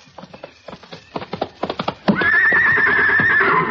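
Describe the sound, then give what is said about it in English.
A string of clip-clopping hoofbeats on a hard surface gives way to a loud, sustained whinny from a horse named Sammy, shrill and wavering until the end. “I'm sorry I can't give you this heavy one. It's for Sammy. The horse?”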